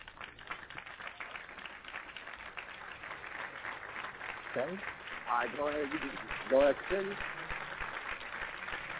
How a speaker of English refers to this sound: Give me a hand clap. Give me a hand clap on that one. I need a hand clap.